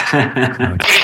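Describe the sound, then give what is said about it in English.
A loud sneeze: a few quick voiced gasps build up, then burst into a sharp, breathy explosion at the end. “Bless you.”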